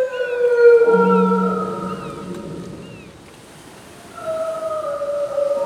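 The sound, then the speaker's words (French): A whale call at the Cape of Good Hope: long, drawn-out tonal moans with layered harmonics and faint higher chirps, fading into a quiet gap before a second gliding cry rises over a low watery rumble. “C'est une baleine !”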